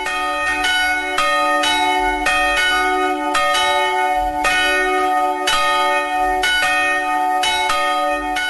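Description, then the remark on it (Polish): Church bells ring out loud and full, several bells striking in an overlapping, steady peal with rich lingering tones and no voices, calling people to church for prayer. “Dzwony, które słyszymy, zapraszają nas już do kościoła na modlitwę.”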